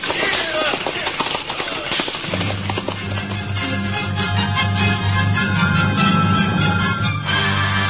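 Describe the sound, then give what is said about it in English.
Horses' hooves clip-clop steadily and briskly on the hard London road, while a low sustained music swell rises beneath them after the first couple of seconds. “The London road stretched out under the horses' feet.”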